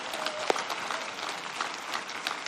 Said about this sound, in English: Church, if there was ever a place for an amen and a hand clap of praise, I believe it's right there, celebrating what God has done.